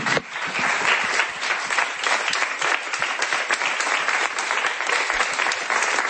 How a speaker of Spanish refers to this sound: Aplaude efusivamente Bartomeu al lado del futbolista uruguayo.